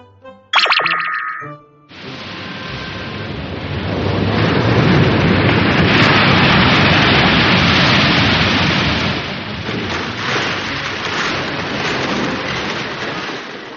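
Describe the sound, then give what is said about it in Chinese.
After a brief ringing chime, heavy waves pound and roar against a rock cliff while stones large and small keep falling into the sea, in a continuous, loud wash of surf that swells in the middle and rolls on steadily to the end. “海浪疯狂地拍打在岩壁上，大大小小的石头也不断地落到海里去。”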